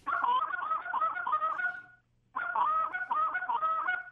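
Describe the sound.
Two bursts of low, murmuring cluck moans blown on a goose call, each about two seconds of rapid, rolling clucks run together, separated by a short pause. Fairly loud, with no talking.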